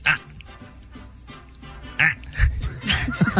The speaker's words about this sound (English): A lot of grunts. A lot of grunts.